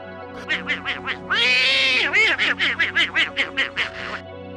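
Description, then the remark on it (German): Donald Duck's quacking laugh: a rapid series of raspy, nasal quacks broken by one longer squawk near the middle, loud, with no one talking. “Ja, das ist die Lache von Donald Duck.”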